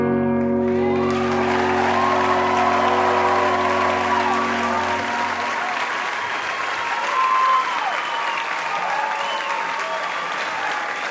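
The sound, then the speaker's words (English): A sustained musical chord fades out as a crowd breaks into loud, steady applause, with scattered whoops and cheers rising above the clapping for several seconds. “You must be one of the sweetest crowds ever.”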